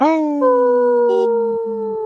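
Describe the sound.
People on the radio show Native Roots Radio Presents howl like wolves: a sustained, wavering human howl in a middle pitch that slides slowly downward over about two seconds, loud and steady, with a second voice briefly joining near the end.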